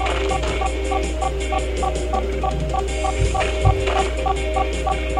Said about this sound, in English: Now, that beeping is an object. And then off to the right, which means way out in front of Super Liam, still quite a ways away.